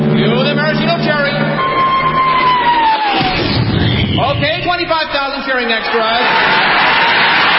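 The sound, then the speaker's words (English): A crowd of 25,000 extras roars and cheers in a loud, sustained swell of many voices, with yelling and whooping rising and falling over several seconds. “Then the Royal Canadian Air Force will fly overhead towing a 10-ton maraschino cherry, which will be dropped into the whipped cream for the cheering of 25,000 extras.”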